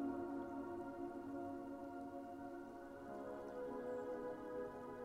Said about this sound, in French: En poursuivant sereinement votre promenade, vous entendez au loin le bruit de l'eau qui court et vous vous dirigez vers ce son.